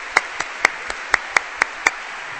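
An audience at an evening concert claps in a quick, even rhythm, about eight sharp claps in a couple of seconds over a faint background hiss. No one speaks.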